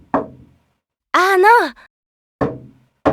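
Heavy, dull knocks on a door, spaced more than a second apart, with a short wavering vocal sound, like a whine or groan, between the first and second knocks, as the Touhou character Letty asks to be let in.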